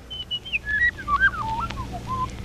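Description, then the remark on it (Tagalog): A bird sings a run of clear, whistled notes that slide downward in pitch, moderately loud over a low background hum, with no talking. “Tanawa ang matahom nga kabulakan, kag pamati ang kapispisan nga nagaamba.”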